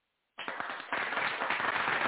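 A burst of applause-style clapping starts abruptly after a brief silence, then swells into dense, steady clapping from a small crowd, fairly loud, with no talking over it.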